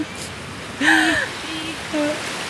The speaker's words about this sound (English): I like Split. We have beautiful sea even in the port. It's so clear. You can't see, but you can hear the waves.